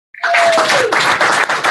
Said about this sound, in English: Thanks again to all the Vegas Voicers and the Voice Actors Studio. Yes, you can applaud.